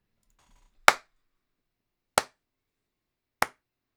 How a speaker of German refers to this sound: Also werde ich ein paar Mal klatschen und Ihnen dann unbearbeitete Stille bieten.